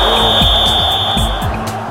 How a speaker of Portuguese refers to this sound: Você escutou o apito?